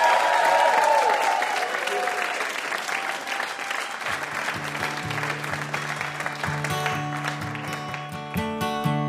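A crowd applauds a VIP guest after a competition with dense, steady clapping throughout, and partway through, music with a strummed guitar and a steady beat begins underneath the continuing applause.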